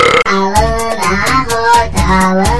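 Loud, drawn-out burps in a song rise and fall in pitch like a crude melody, set against a steady, driving drumbeat with regular crashing hits.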